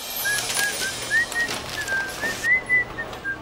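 A woman whistles a light, wavering tune in short repeated phrases, clear, with a faint low hum in the background and no talking.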